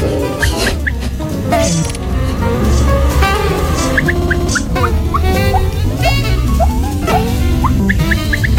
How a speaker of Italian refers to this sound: Allevo questi pochi polli in un recinto abbastanza vasto in cui questi polli sono apparentemente liberi.